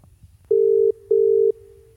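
A phone's ringback tone sounds as an outgoing call connects: two steady electronic purrs, each about 0.4 seconds long, with a short pause between them, clear over a faint low hum.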